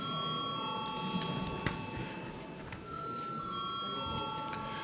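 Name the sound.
parliamentary voting bell ringing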